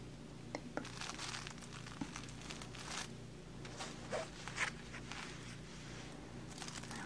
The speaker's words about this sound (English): What I usually do is I'll take a pin. This one is a little crooked, but that's okay. And I'll just pin the fabric down to this paper. It's kind of like wax.